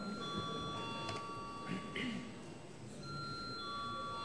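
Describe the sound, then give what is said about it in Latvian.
A parliament chamber's steady electric bell, rung before deputies vote, rings continuously with a bright, high, sustained tone, briefly dipping midway, over a low background murmur of people moving and talking. “Lūdzu zvanu.”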